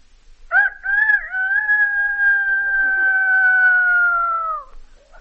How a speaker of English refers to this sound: A rooster.